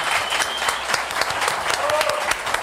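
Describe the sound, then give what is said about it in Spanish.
An audience applauds steadily, dense overlapping claps forming a continuous, fairly loud wash from start to finish, with a few faint voices mixed into the noise. “Sí, un aplauso, ¿cómo no?”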